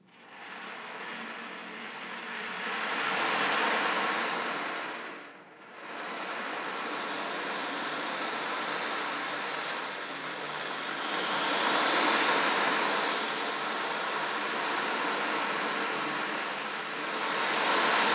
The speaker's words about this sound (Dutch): En beeld je in dat je aan zee aan de branding staat. En dat je het geluid van de branding naar je toe hoort komen.